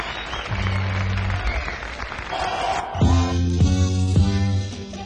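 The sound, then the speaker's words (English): A large concert crowd at London's Dominion Theatre applauds steadily throughout as the performer is welcomed on stage, a dense wash of clapping with cheers on top, while low sustained tones, likely music or a PA, sound under it and grow in the second half. “The show was recorded at London's Dominion Theatre, and that's where we join the crowd as they welcome on stage”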